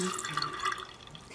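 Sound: water splashing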